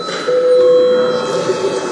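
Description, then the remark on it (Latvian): A session bell in the Latvian parliament, the Saeima, rings continuously for about two seconds, a steady, loud electric buzzing-ring with a sustained mid-pitched tone running through it and no talking. “Lūdzu zvanu.”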